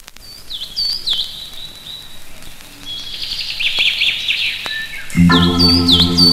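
Clear bird chirps and whistling calls repeat on their own for several seconds, then a sustained, tonal musical sound swells in underneath as the birds keep singing.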